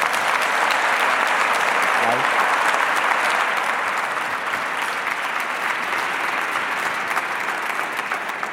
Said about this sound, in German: Danke und Applaus.